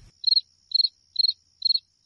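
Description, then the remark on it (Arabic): Crickets chirp steadily at night, each short trilled burst repeating about twice a second in an even rhythm, clear against an otherwise silent background with no voices, on a hill at the site of the destroyed village of al-Birwa, under a light breeze. “وفوق تلة هناك ترفرف نسمات خفيفة ويسود الصمت، ولا يسمع سوى صوت صراصير الليل.”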